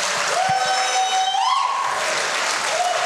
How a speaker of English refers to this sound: As you come, I want you to give him a good round of applause. Welcome him back to his alma mater.